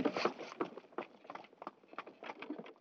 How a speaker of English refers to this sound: I ask to speak to the king. He comes to the temple on his small white horse.